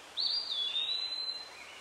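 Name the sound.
birds chirping and singing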